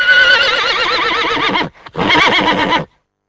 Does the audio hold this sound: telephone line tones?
no